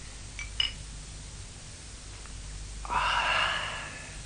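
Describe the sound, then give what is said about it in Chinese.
Two drinking glasses clink together once in a quick, light toast near the start, followed by quiet room tone and then a soft, breathy exhale. “你为我哋嘅缘分饮杯。 干杯。”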